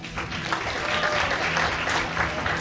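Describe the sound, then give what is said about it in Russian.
Steady, dense audience applause at an awards ceremony as the sports film category is announced, many hands clapping at a constant loud level with a hint of crowd murmur underneath. “Аплодисменты давайте вот так отдельно сразу дают.”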